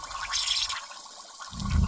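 Water gushes from a garden hose in Fairplay, Colorado, in a loud, hissing rush, easing briefly before a deep, churning surge builds up at the end. No one speaks.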